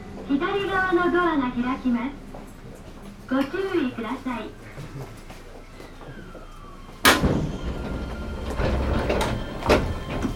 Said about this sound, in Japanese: ドアが開きます。ご注意ください。